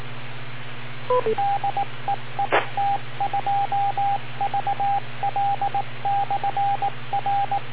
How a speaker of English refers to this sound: You should set the touch tones with like 3, maybe 3.3 kHz deviation maximum. You want the touch tones to go out without clipping the audio at all. They'll work the best that way.